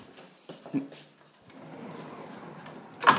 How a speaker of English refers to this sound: They are the sound of two massive double doors.